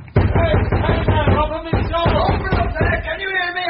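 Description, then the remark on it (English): A fist pounds on a locked wooden door in a rapid series of heavy thuds, then slower scattered blows, with a raised voice sounding underneath. “Well, hammer on the door.”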